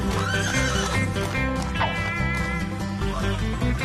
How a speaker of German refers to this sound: Na klar, Pferde.